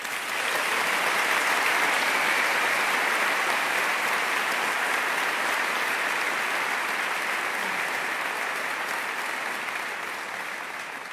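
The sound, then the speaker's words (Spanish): A crowd claps for a band steadily for about eleven seconds, a dense, even roar of many hands that holds its loudness before easing off slightly at the very end. No voices stand out. “Os pido un gran aplauso para ….”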